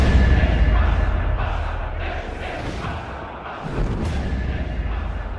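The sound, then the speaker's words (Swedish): A loud, dense action scene playing on a cinema screen: booming gunfire and blasts over a heavy, continuous low rumble and swelling music, briefly dipping before surging back even louder. “På bioduken utspelar sig en actionscen. Skott avlossas och musiken stegrar.”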